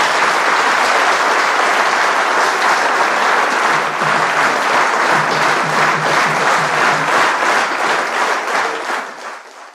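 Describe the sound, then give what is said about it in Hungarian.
A large audience applauds loudly and steadily to thank a departing spokesperson, a dense wash of many hands clapping at once that holds strong throughout before easing off slightly at the very end. “És most egy tapssal, te köszönj meg közönség, e visszás utazás.”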